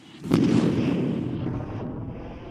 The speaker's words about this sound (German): Kurz vor Mitternacht feiert die Crew den Geburtstag eines Besatzungsmitglieds, als ein ohrenbetäubender Knall über das Schiff hallt.